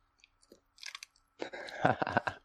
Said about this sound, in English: You know what? I'm going to take a sip out of my Game of Thrones cup here from Shake Shack.